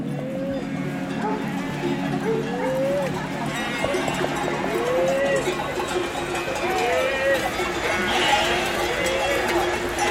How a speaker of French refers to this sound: Cirque de Campulse. Arrivé et triage des différents troupeaux qui se regroupent.